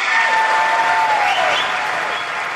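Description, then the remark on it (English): Steady, dense applause from a large crowd at a joint session of the US Congress during Benjamin Netanyahu's address, many hands clapping at once in a continuous loud wash of sound with no voices standing out; not everyone present is clapping. “Yeah, not all people clapping there, though.”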